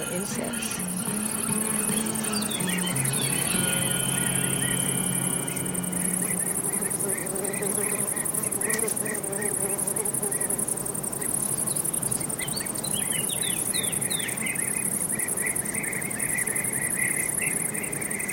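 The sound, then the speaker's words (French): A steady outdoor nature bed in Yosemite Valley: insects chirr continuously while birds chirp and trill intermittently, over a soft, constant rush of wind through willow branches. No one speaks. “Écoutez le vent, les oiseaux et les petits insectes.”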